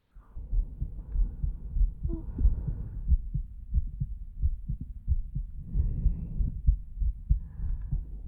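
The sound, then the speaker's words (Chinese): A close, muffled heartbeat thumps steadily and deeply, heard with the head resting on a person's chest, with a soft rumbling hum between the beats and no talking. “没关系了，因为有必要在你的身上留下我的味道，所以让你枕在我的胸口听心跳也是没有问题的。”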